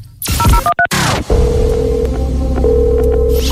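A quick run of telephone keypad beeps as a random phone number is dialed for a prize draw, a few short dual tones, followed by a steady ringing tone that sounds twice in long pulses over a dense background hum.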